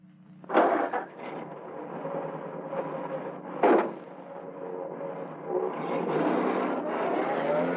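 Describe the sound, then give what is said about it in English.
A car engine turns over and settles into a steady rumble as the vehicle pulls away, with a couple of sharp mechanical knocks early on and no talking. “Start the car.”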